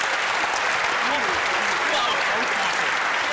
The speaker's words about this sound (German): Erstmal einen Applaus natürlich für die, die sich trauen hier öffentlich.